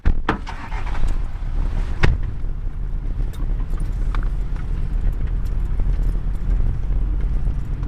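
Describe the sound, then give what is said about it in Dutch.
A jeep rumbles steadily along a dirt track on a safari drive toward Heck cattle, its low engine drone mixed with scattered knocks and rattles as it jolts along. No one speaks. “We hebben de jeep. Dus wordt het helemaal een echte safari.”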